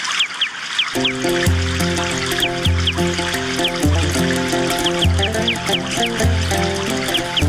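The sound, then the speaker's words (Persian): Outdoor ambience in the wide green 360-jerib grounds of the Polytechnic, where a gardener is watering and tending flowers and trees: many birds chirp and call repeatedly over a steady, layered tonal drone with rhythmic low thumps. No speech; running water not clearly audible. “کمی پیشتر رفتم باغبانی را دیدم که مصروف آبیاری و پاککاری گلها و درختان بود.”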